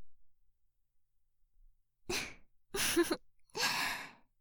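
A big, breathy yawn after a moment of silence: three drawn-out airy bursts, gasping in and sighing out, with no talking.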